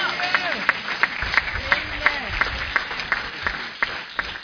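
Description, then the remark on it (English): A church audience claps a steady, rhythmic 'clap offering' to the Lord, about three sharp claps per second, with a wash of voices and crowd noise running underneath. “Give the Lord a super clap offering.”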